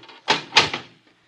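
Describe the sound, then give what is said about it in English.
A heavy door opens with a couple of loud, rumbling clunks and a scraping grind in quick succession, then settles into quiet; no voices. “Door's not that heavy”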